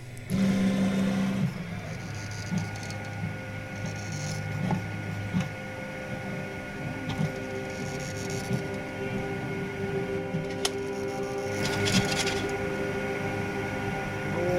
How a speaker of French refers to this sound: Et je vais pouvoir maintenant déclencher l'impression et on va avoir du plastique fondu qui va se déposer en couches successives sur le plateau de l'imprimante. Et maintenant je lance l'impression.